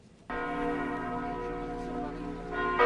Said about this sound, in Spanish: Desde Marsella hasta Estrasburgo, las campanas de todas las catedrales de Francia repicaron el miércoles al unísono en homenaje a Notre Dame, 48 horas después del incendio que devoró el techo del histórico monumento.